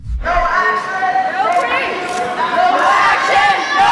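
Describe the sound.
A loud crowd of protesters in the gallery of the Tennessee legislature screams and shouts the slogan "no action, no peace" together, disrupting the assembly, many raised voices overlapping in a continuous, dense roar that holds steady for the whole stretch.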